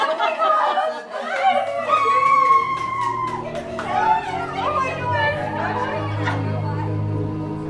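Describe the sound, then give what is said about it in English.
An overflow crowd, with people standing, fills the air with steady, overlapping chatter, children's high voices and bursts of laughter rising over a constant low murmur of talk. “We've got an overflow crowd.”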